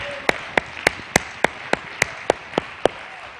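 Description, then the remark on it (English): A crowd claps hands in unison to thank God, about ten sharp, even claps on a steady, brisk beat with a faint hum between them and no talking. “So why don't you thank God by clapping your hands right now for the power to become.”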